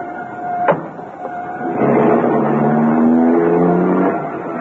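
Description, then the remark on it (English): A sharp knock or door slam, then a car engine starts and revs up, its rising hum steady as the vehicle pulls away, with no talking. “I've got a car. Hurry.”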